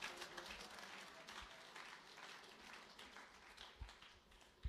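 An audience claps hands together in a dense, sustained burst of applause, many overlapping claps at moderate loudness for several seconds.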